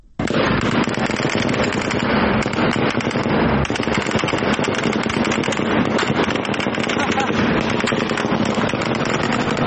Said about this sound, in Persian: همزمان ویدیوهای منتشره از پیرانشهر نشان می‌دهد که نیروهای نظامی در پی مراسم تشییع پیکر کاروان قادر شکری از کشته شدگان این شهر اقدام به تیراندازی به سوی معترضان کردند.